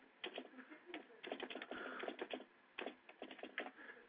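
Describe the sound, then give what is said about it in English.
Rapid, clattering keystrokes on a computer keyboard, coming in bursts with short pauses between, moderately loud, with no voices over them. “And we are still typing while we”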